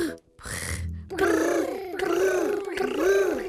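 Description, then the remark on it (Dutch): A voice imitates a contented tiger's rolling brrr, three loud bursts of throaty, vibrating sound following a short breathy opening. “Maar het mooiste is de blije tijger die brrrt.”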